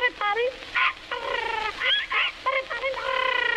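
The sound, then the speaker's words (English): A toy Poll Parrot squawks in a quick run of shrill, nasal, honking cries, several close together, loud, with no talking around them. “And a Poll Parrot for the little boy who lives in the garret.”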